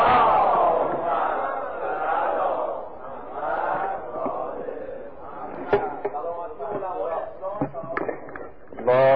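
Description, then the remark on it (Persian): A large crowd chants salawat together in unison for the infallible Imams, a loud, dense wash of many voices rising and falling, with a few sharp claps or thumps near the end. “حالا یه صلوات برای ائمه معصومه خلق کنیم.”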